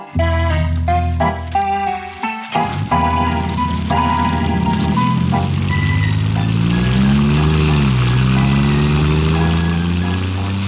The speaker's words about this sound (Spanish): El auto, guiado por el japonés y llevando como pasajero a Lord Ferrison, se aleja por los solitarios muelles